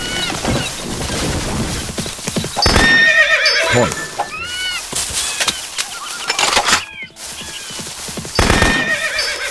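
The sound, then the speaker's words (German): A horse in a video game whinnies loudly several times in quick succession, high shrill neighs rising and falling, with hooves clip-clopping and brief game sound effects and a voice speaking in between. “Tut mir leid, Pferd.”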